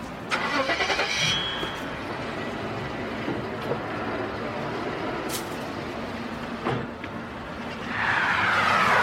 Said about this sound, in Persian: ماشین مالک تو بزرگراه تهران در حال حرکته.